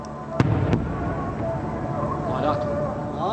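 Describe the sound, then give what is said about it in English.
Two sharp, loud blasts from nighttime airstrikes on the eastern edge of Fallujah crack in quick succession, followed by a steady rumbling backdrop as two watching men talk and murmur underneath, with a faint wavering call rising later, a call of 'God is great' from Fallujah's mosques. “In a video obtained by NPR from insurgent fighters, two men watch repeated flashes as nighttime strikes hit the eastern edge of Fallujah.”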